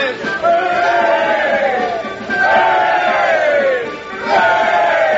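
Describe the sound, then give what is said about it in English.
A large crowd cheers a parade of tradesmen passing across the end of a street with flags, banners and bands, in three rising-and-falling waves of loud, massed voices, each surge swelling into a roar before dipping briefly and starting again. “There they go, across the end of the street. Flags, banners, bands.”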